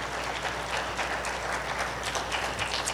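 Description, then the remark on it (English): An audience at a Palm Sunday church service applauds steadily for three seconds as children march out, a dense, even wash of many hands clapping with no voices standing out and no pauses. “Let's clap for our kids as they march out.”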